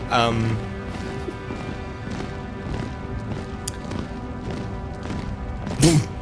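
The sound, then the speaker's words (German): A steady series of dull knocks on a door, about two per second, moderately loud and repeated throughout, the door shaking in its frame, over a faint humming background. “Ich glaub, da klopft's an der Tür, oder?”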